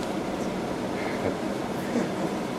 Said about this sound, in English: Let's see how loud it is. Well, then you get the full sound of the air conditioner with only half the battery.